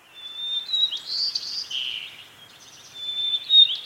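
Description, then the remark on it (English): A first-year sparrow sings an unsteady, off-key song of thin high whistles and buzzy slurred notes, wavering in pitch and loudness over four seconds with no one speaking. “As winter deepens, the first-year birds begin to get the syllables of their songs down, but they might sound shaky and off-key.”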